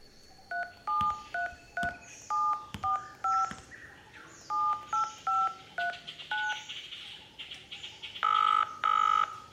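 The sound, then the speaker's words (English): A quick series of cell phone keypad dialing beeps, each press a short dual tone, tapped out in bursts with brief pauses, followed by two longer, louder tones at the end, clear with no talking. “Cell phone.”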